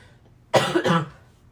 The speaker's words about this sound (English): You might hear me cough occasionally. Like there? I will turn away from the mic, though.